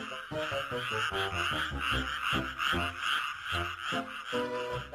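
Frogs croak steadily and loudly in a dense, rhythmic chorus of rapid, throaty pulses that continue without a break, with no voices present.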